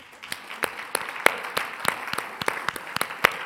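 An audience at a session at Jomo Kenyatta University of Agriculture and Technology claps for each other, a steady patter of many hands with a few sharper individual claps standing out, moderately loud and sounding like many people.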